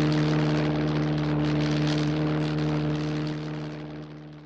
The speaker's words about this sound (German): Und brummende Flugzeuge, die über den Wolken schweben.